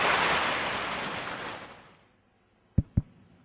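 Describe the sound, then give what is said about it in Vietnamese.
A dense wash of audience applause at a Buddhist dharma talk fades steadily over about two seconds into near silence, followed by two sharp, brief knocks in quick succession. No one speaks. “Xin các vị cho một tràng pháo tay để cung thỉnh ni trưởng Tô Liên sẽ chia sẻ với tất cả các vị qua câu hỏi này.”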